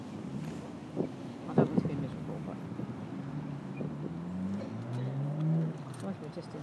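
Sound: wind blowing outdoors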